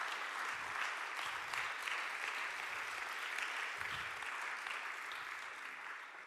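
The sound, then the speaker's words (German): Sustained audience applause at the Alive Church for the team behind the stage and everyone active in the church, a dense wash of many hands clapping at a steady, even level for several seconds, tapering slightly toward the end, with no speech over it. “Lasst uns mal dem Team und auch allen Menschen, die gerade in der Alive Church aktiv sind, dem ganzen Team, was hinter der Bühne ist, einen dicken Applaus geben.”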